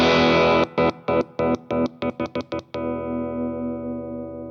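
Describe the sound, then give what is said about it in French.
A loud, sustained electric guitar feedback tone at the end of a song is rapidly switched on and off with the guitar's selector switch in a stuttering rhythm for about two seconds, then rings on steadily and slowly fades, with no one speaking. “Là, ça peut être un effet très utile, par exemple, quand vous êtes en gros Larsen à la fin du morceau et que vous cherchez à donner un peu de relief rythmique à votre gros Larsen.”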